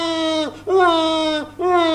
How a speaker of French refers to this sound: Le bébé continue à pleurer. Pauvre mignon, il a été choqué, dit sa maman.